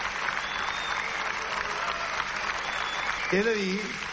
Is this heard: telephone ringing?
no